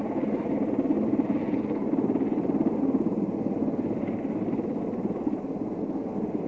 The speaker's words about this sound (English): And here comes the primary recovery helicopter into position.